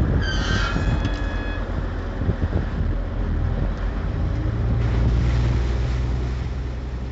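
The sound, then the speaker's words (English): A ferry boat's deep engine rumble at the Wellingdorf pier next to GEOMAR in Kiel, Germany, on the Baltic Sea, steady, with wind and lapping water. A brief high whistling squeal sounds near the start. No one speaks. “And we are both sitting here at the pier Wellingdorf next to the GeoMar. This is where we arrived this morning by ferry.”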